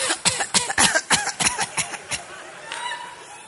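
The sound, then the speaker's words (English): A woman's rapid fit of repeated coughing, about a dozen sharp bursts in quick succession, fairly loud, tapering off into quieter breathy sounds at the end. “She started coughing.”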